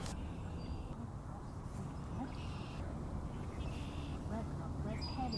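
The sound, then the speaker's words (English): A group of about five redhead ducks calls steadily in a dense, low, murmuring chorus, with scattered nasal notes standing out over the continuous flock noise and faint voices. “People frequently will call it a redhead duck, but it's just redhead.”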